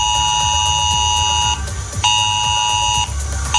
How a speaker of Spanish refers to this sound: Es una nueva alerta de Protección Civil que en este caso han recibido en sus móviles los vecinos de Santa Cruz de Retamar, Escalona, El Casar de Escalona, Hormigos, Cazalegas y Cardiel de los Montes.